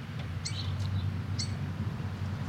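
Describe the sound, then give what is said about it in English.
A bird lets out a few short, shrill squawks spaced out over a couple of seconds, fairly faint against a steady low background hum, with no one talking. “That was a squawky.”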